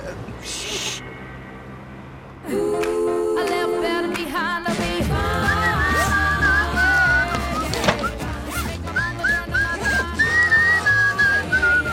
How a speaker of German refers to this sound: Kannst du mit dieser dämlichen Pfeiferei aufhören? Oh, sorry, ich wusste nicht, dass du auch was durch die Kopfhörer hörst.